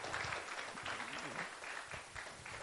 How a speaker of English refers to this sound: Can we just give her a round of applause, please?